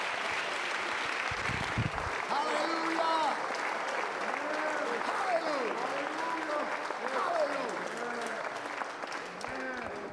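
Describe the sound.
A church audience claps steadily and loudly in praise throughout, a dense wash of hand claps with voices murmuring and calling out underneath.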